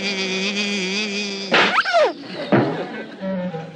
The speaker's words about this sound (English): Uh-oh, a bee!